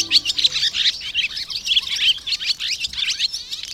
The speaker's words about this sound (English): Has a barn swallow started slapping mud on the wall of your house in preparation for making a nest? Are you dreading the cleanup duties that'll follow? If so, the chattering of this swallow probably is not music to your ears.